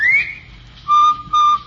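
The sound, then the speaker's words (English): A bright, clear whistled bobwhite call: a quick rising note followed by two steady, evenly spaced tones, loud with no talking. “Of course, you've heard the cheery whistle of the Bob White.”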